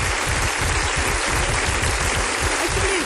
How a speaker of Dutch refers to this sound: applaus voor de Surinaamse meneer, hè?